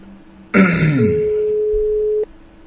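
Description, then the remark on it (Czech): A throat clears loudly, then a single steady telephone ringback tone hums for just over a second as an outgoing phone call is placed, before cutting off, leaving near silence. “A už voláme. Nikoho vytáčet nebudeme, nikoho zvedat nebudeme. My budeme volat. Tak, počkáme, až to Milan zase zvedne.”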